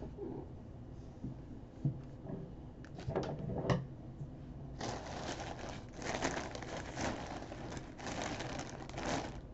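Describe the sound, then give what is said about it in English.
Busy crinkling and rustling of packaging as a package holding a black Ita bag is unboxed, with a few sharp clicks and taps early on, then a stretch of steady, dense crackling as material is pulled and handled. No speech. “So I'm going to start unboxing now.”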